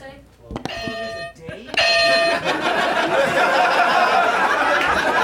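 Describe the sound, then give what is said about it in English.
Novelty game buzzers, brought for a group game, blare in two loud, harmonic-rich bursts, one after the other, followed by a swell of laughter and overlapping chatter from a group. “I brought some buzzers. People love it when I bring the crazy buzzers.”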